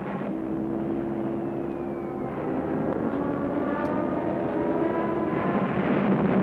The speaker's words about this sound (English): The screaming dive bombers proved to be the spearhead of a totally new form of mechanized war, Blitzkrieg or Lightning War, and lightning it proved to be.